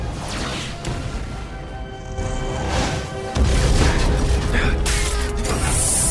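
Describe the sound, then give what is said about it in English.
Rough mechanical clattering and creaking, then a heavier crash as a device is smashed to pieces with a club-like stick, with dense, loud debris noise continuing until the end. No speech. “Yes, smashed right. To pieces.”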